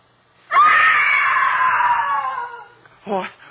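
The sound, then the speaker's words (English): A woman lets out a long, piercing scream lasting about two seconds, loud, trailing off at the end, followed by a short, sharp vocal burst. “A woman screamed.”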